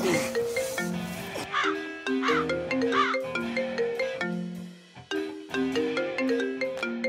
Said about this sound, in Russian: Телефон звонит. Подними трубку хотя бы.